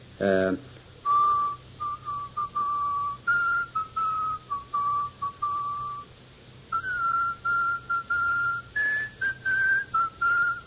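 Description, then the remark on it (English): A lone person whistles a slow, mournful funeral dirge, a steady string of held notes with brief breaths between phrases. A short higher chirp comes at the very start. “He's always whistling to himself. And he whistles the same tune over and over again.”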